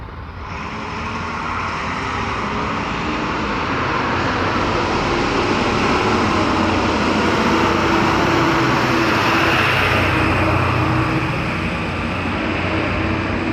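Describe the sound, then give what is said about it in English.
A loud pickup truck roars past, its broad engine and road noise swelling over several seconds and then easing off slightly, with no voices. “Truck. Given that it was only a pickup, yikes, that was loud.”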